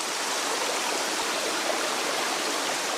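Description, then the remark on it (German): A babbling stream rushes steadily over rocks in the Döndal gorge in Denmark, between rock walls along a hiking trail leading to a waterfall, a dense, continuous wash of water even in level throughout with no voices. “Gut einen Kilometer schlängelt sich ein Wanderweg den Bach entlang, rechts und links Felswände bis zum Wasserfall.”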